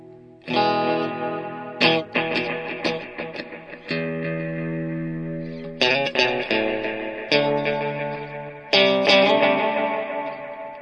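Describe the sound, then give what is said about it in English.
Electric guitar chords strummed through effects pedals with freshly adjusted knobs, played clean without distortion, about six loud, ringing strums spaced a second or two apart, each sustaining and repeating with a shimmering, chorus-like wash and reverb. No one speaks. “I don't even know if I can play guitar.”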